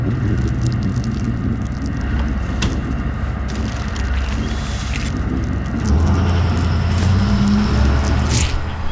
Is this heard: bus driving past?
yes